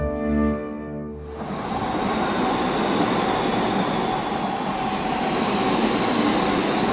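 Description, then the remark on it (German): A brief tonal whistle gives way to a train rolling along the rails, a loud, steady rumble with a rattling texture that continues without pause. No one speaks. “Mit dem Zug.”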